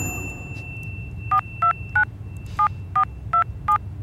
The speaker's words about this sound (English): It's ringing.